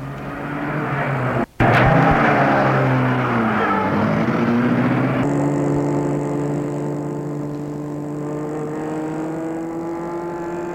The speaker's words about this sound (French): Mets la voiture en route.